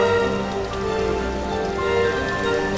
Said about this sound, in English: It started raining again.